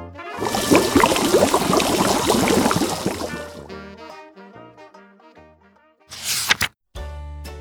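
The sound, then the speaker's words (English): Water gushes and splashes loudly for a few seconds as it fills a paddling pool in a garden, then fades into quieter tonal sounds with a brief rushing burst near the end. “It took a long time to fill, but at last the paddling pool was full.”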